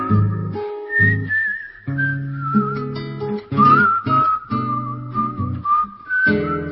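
Someone whistles a melodic tune over a strummed viola accompaniment, the clear, sustained whistled notes gliding between pitches in a steady performance.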